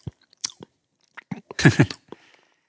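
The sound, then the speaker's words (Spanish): A voice imitates chewing chalk with wet, crunchy mouth noises: a few scattered clicks, then a louder burst of crunching near the end, with no speech. “Entonces, toda esa parte que no lo estaba intentando simular masticando tiza, pues aparece un poco, ¿no?”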